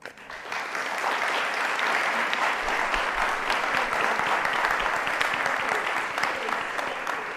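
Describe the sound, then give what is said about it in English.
Steady, dense applause from a crowd for the seniors, a broad wash of many hands clapping at once that rises quickly and holds at an even, loud level for several seconds with no voices. “Let's give our seniors one more round of applause.”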